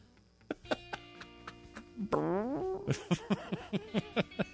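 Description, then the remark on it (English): A cartoonish fart sound effect blurts out midway, with a wobbling, sliding pitch, over a steady ticking beat that gives way to a string of short, bouncy, rhythmic pops. No one speaks. “We'll have to do post-production then. Yeah. And put some fart noises in.”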